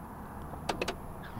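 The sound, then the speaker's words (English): A vehicle's power side door shuts with a quick cluster of sharp clunks and latch clicks, over a low steady outdoor rumble, on a day with hail. “And it's going to slam shut.”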